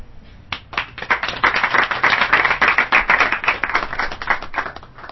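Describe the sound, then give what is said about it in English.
A burst of hands clapping, quick and steady, building to a brisk, fairly loud patter of applause that carries on for several seconds with no voices over it. “I applaud you.”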